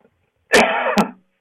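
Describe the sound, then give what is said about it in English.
A single harsh cough bursts out after a short silence, ending with a raspy throat-clearing tail before fading quickly. No one speaks. “Just because somebody coughs doesn't mean they have the COVID.”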